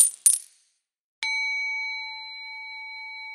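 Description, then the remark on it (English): Two quick metallic clinks, then a coin strikes a hard surface and rings out with a clear, steady tone that slowly fades. Fairly loud, with no voices. “He found a crooked sixpence upon a crooked stile.”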